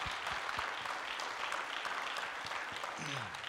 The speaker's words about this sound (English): Well, let's give a round of applause for what God's doing in Belarus.